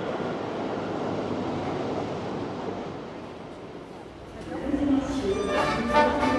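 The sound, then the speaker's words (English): A steady, broad roaring rumble of a Paris metro train running nearby fills the first seconds, then eases as muffled voices and brighter tonal sounds rise toward the end. “Although time has stopped here, the metro trains running nearby have not.”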